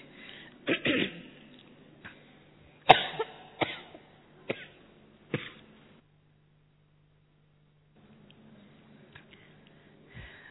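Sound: coughing fit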